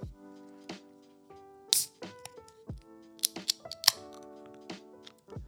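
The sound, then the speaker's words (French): A can of Rollbock Quadra Plaisir beer, 11.5% alcohol, being opened: sharp metallic clicks and taps with a ringing tone, then a few bright snaps and short fizzy bursts. No talking. “Juste à ouvrir la canette, mon ami, ça sent le houblon, ça sent le juice, le gros juice.”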